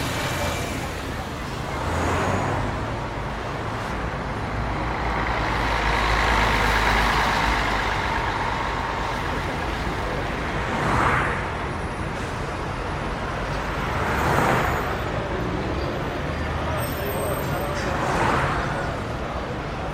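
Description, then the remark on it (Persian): Steady morning street traffic heard from inside a parked car, rumbling throughout, with several vehicles swelling past every few seconds over a constant roadway hiss, moderately loud. “صبح شده، صدرا توی ماشین نشسته و به قهوه خونه نگاه میکنه”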